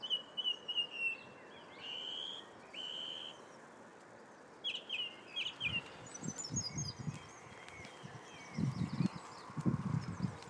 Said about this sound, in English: I don't know if you heard that. There's a blackbird up there. And it's mimicking car alarms. That's obviously not a blackbird.